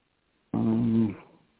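A cat purrs in a single close, loud burst of low rumbling that lasts about half a second and then quickly fades into quiet.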